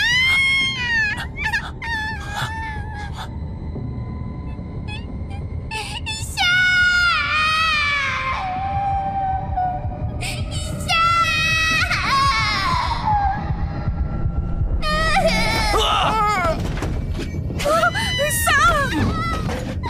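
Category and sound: human body sound, baby crying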